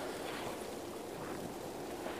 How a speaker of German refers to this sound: Irgendwas fieselt hier. Ach nee, es sind Blätter. Blätter, die rascheln. Das klingt nur wie fieseln.